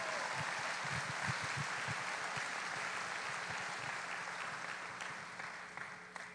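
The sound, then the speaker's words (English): A crowd at a memorial gathering for a pastor applauds steadily for the first speaker, his oldest grandson, a dense wash of clapping hands that holds strong for several seconds and then begins to thin and fade slightly toward the end. No one speaks over it. “Give him a round of applause if you would, everybody.”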